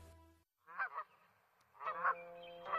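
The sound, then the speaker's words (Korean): A goose honks loudly, a pair of harsh nasal calls, then after a short pause another quick run of honks, with no one speaking. “거위 거위 거위, 굽은 목은 하늘을 향해 노래 부르네.”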